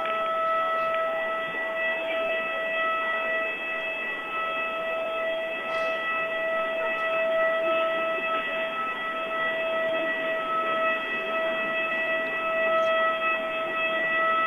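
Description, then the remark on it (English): A gym's lunk alarm siren blares continuously, a sustained tone with stacked harmonics that holds its pitch without pause for the whole stretch, loud and unbroken, with no voices over it. “You got the lunk alarm on.”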